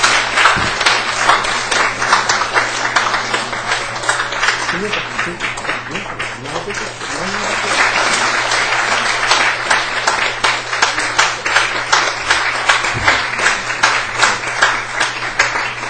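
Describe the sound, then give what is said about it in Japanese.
An audience breaks into warm, sustained applause in blessing for a baby and her family, many hands clapping in a dense, steady patter that stays loud throughout, with a faint constant hum beneath it. “はい、あの祝福の拍手を皆さんで送りたいと思います。”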